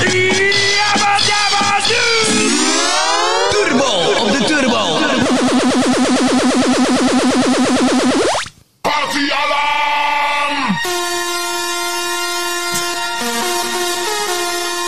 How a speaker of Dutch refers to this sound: Nee, waar gaat het over, jongen? Kermisgeluiden.